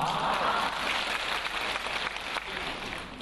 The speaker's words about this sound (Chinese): 哎，鼓掌还不稀奇啊，我当场放给你们听好不好啊。